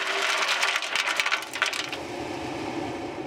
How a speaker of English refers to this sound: Bentonite is a kind of super absorbent clay that gets poured down the well to seal it. Listen for the bentonite to hit the water at the bottom and lift up more.